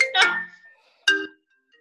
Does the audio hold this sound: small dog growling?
no